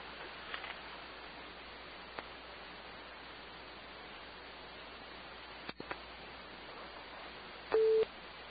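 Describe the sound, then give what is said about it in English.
A single short, steady beep of a call-waiting tone sounds near the end, cutting through a constant hiss of telephone-line static with a few faint clicks earlier on. “Hold on, somebody called again. I'm gonna let it beep again, okay?”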